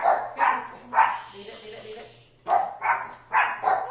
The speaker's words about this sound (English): The dogs are making their claim for fame. They're going to show up on the recording.